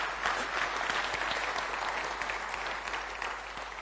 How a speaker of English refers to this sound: Who clapped first? Really?